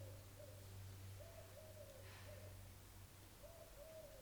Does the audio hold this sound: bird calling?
yes